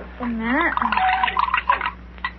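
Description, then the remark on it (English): A dose of medicine is poured into a glass of water in a short gurgling trickle lasting a couple of seconds, with a voice briefly sounding at the start. “Read the label on that medicine bottle and pour a dose in that glass of water, will you please?”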